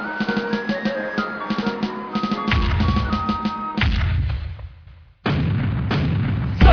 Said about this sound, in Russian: Но, сэр, сэр, похоже, они приготовились к залпу. Так сделайте же ответные выстрелы из всех орудий.